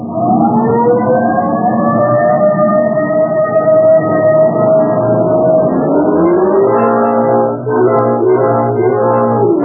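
A car engine roars loudly and steadily, its droning tone climbing in pitch as it accelerates hard, like a vehicle speeding off. No voices are heard.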